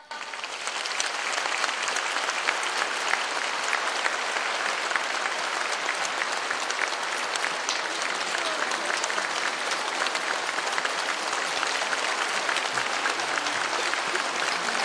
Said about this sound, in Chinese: 现在让我们用最热烈的掌声恭请尊敬的卢军宏台长。